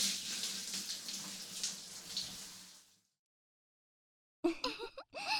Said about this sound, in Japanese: よし、じゃあ体を流すわね。ちゃんと泡を全部流さないとね。温かいシャワーで流したら心地いいでしょ。